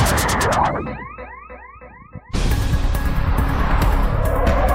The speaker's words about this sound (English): That's Anne Heche's car flying down the street minutes before crashing into a home and starting a fire.